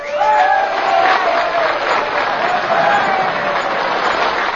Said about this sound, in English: She touched her lips with her hands, and with tears in their eyes, the miners thundered their applause.